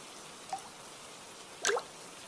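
Two raindrops drip, a soft, brief plink followed about a second later by a louder, splashier drop, with faint hiss in between and no voices.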